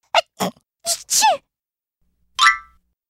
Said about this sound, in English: His sensitive nose was also allergic to pollen. He sneezed and sneezed.